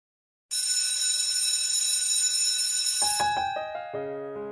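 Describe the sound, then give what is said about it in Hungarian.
A bright bell rings loudly and continuously for a few seconds, then gives way to a short series of separate chiming notes stepping in pitch, with no voices. “Most hallom már a csengőszót, ezért elköszönök a kedves hallgatóktól, áldás békességet!”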